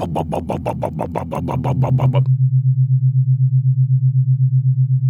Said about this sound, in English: If you go on the web and search for brainwave entrainment, most of what you'll hear will sound like this.